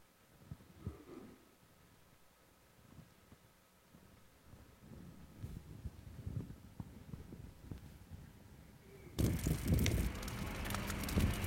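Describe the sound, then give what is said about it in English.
A large bonfire, heard from about 20 feet away and burning debris on a church cleanup day, roars steadily outdoors with scattered pops and crackles and gives off intense heat, while wind buffets the microphone and swells into a loud, rushing blast near the end. “So that bonfire I was talking about last week, I'm 20 feet away from this fire, and it is so crazy hot.”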